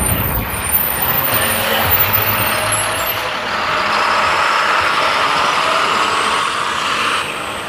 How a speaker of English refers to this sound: Same garbage truck. Maybe it is going to be a theme.